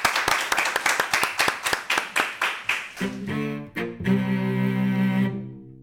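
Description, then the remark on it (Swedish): Steady, evenly spaced clapping for the audience at an event at Almedalen for about three seconds, then a bright musical jingle with sustained tones takes over and plays out to the end. “Ja, vi applåderar publiken.”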